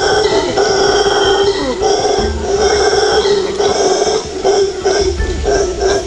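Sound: howler monkeys howling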